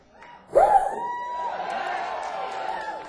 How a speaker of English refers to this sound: What a lively round of applause for the band back there.